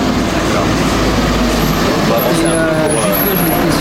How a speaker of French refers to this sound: Camions, ouais.